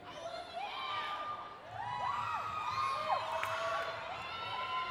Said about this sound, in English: I like the awkwardness right now. It's like some girls screaming.